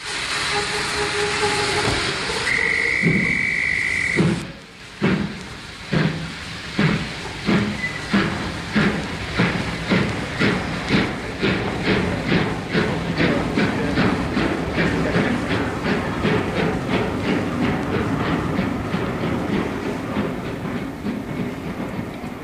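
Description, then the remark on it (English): A train to Paris rolls along the rails with a steady, rhythmic clickety-clack, preceded by a brief whistle-like tone and a burst of steam hiss; loud throughout, with no voices. “I should have been on that train.”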